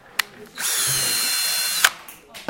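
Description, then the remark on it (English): A small power drill whirs steadily for about a second and a half, a high, even buzz bracketed by short clicks, with faint background noise and no talking, as teens drill a hole into a piece of hard, plastic-like material with rainbow-flecked color to make a pendant in a sculpture studio. “The teens take a piece of hard, plastic-like material with a rainbow of flecked color inside, drill a hole into it, and put a metal ring through.”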